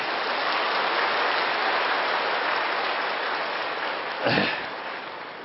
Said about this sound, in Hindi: हाँ, जो स्वीकार करते हैं जरा हाथ तो खड़ा करो, हाँ बजा लो ताली अपने लिए।